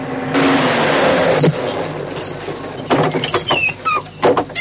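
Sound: truck engine revving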